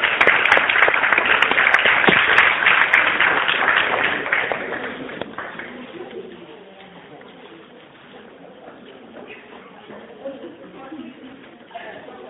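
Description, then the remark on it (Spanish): A loud burst of audience applause for a performer being introduced, many hands clapping at once, that fades over about five seconds into quiet as a voice begins to speak. “un aplauso fuerte para ella.”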